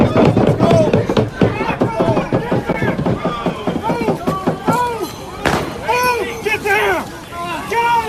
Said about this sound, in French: Oui, on entend le gaz lacrymogène, les coups de feu.